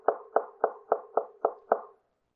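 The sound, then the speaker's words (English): Seven firm, evenly spaced knocks on a door, each with a short hollow ring, in a steady rhythm with nothing else audible around them. “You don't hear the knock of our Lord,”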